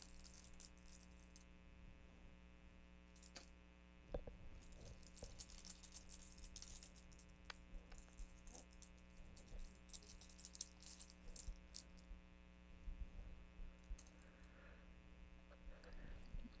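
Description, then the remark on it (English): Keys jangle and clink in short, scattered bursts of metallic rattling over a steady low electrical hum, fairly quiet, with brief pauses between the jingles. “Got your keys.”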